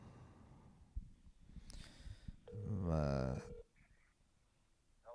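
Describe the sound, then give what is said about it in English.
A phone line rings out on an outgoing call: one loud, steady electronic ring tone lasting about a second, with quiet line hiss and faint background noise around it. “It's ringing. Here we go.”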